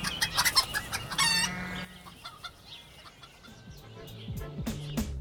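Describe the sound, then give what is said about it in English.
Chickens cluck in quick, busy bursts, then a rooster lets out a short, strained crow before scattered softer clucks carry on, with no one talking. “Our maths chickens don't just lay their eggs, they show they are working.”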